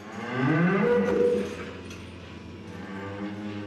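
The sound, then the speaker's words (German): A single long cow moo, loud, rising then sliding down in pitch before trailing into a lower, softer drawn-out groan. No one speaks. “Episode 1. Die Kuh.”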